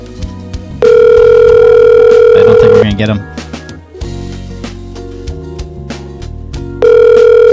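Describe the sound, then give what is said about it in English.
A house phone ringback tone from an outgoing call sounds in two long steady bursts, one early and one near the end, with a man's voice speaking briefly between them over background music. “The house phone ringing, trying to call Dr. Antonio on Mars.”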